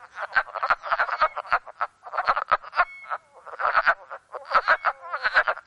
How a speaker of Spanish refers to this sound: estas canciones todas son canciones de amor. Aquí tienen el primer grupo. Aquí tienen el segundo grupo. Y aquí tienen, amigos, el tercer y último grupo de ranas.